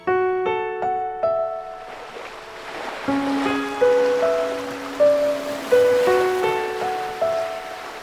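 A calm, dazzling blue sea washes and laps against rocks shaded by pine trees in a steady, soft hiss, while gentle piano-like melodic notes ring out over it. No one speaks.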